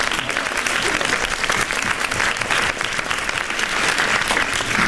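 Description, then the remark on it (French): An audience claps steadily for a guest who is invited to stand, at the Rencontres du 7e art film event; a dense, sustained wash of applause that stays loud and even for the whole stretch with no voices standing out. “On peut l'applaudir, il peut se lever, puisque...”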